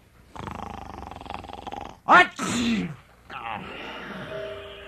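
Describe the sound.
A single loud sneeze, a sharp rising intake followed by a breathy burst, voiced by a person acting it out, with talking just before and after.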